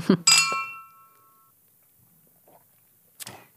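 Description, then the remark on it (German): Glasses of aperitif clink together in a toast, a bright ringing chime that hangs and fades over about a second, followed by quiet and a brief soft rustle near the end. “So, wir haben jetzt einen kleinen Aperitif gereicht bekommen. Schön, dass ihr da seid. Prost. Prost. Vielen Dank. Oh, das sind schöne Sounds.”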